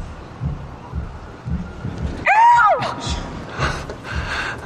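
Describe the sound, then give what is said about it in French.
A person imitates a bird's song with one loud, wavering, high-pitched call that swoops up and down for about half a second, over a low background murmur, followed by a few fainter breathy sounds. “C'est quoi le chant de cet oiseau? Je vais te le faire.”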